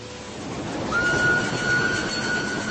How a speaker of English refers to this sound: But in this country of over 1 billion people, the best way to get from point A to B is by riding the rails. In India, the railways are a legacy of British rule.